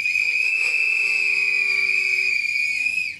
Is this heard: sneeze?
no